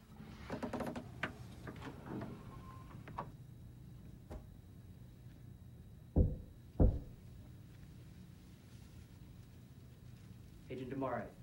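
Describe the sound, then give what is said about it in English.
Two loud, sharp knocks about half a second apart sound on wood from inside a wardrobe, with muffled voices and rustling heard before and after. “On re-entering the room, he realizes the knocking is coming from his wardrobe.”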